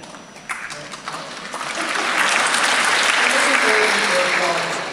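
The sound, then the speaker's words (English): An audience breaks into applause, a dense wash of clapping that swells over the first two seconds and then holds steady and loud, with a few scattered voices mixed in. “I was not waiting for applause, I was trying to think what I would say next.”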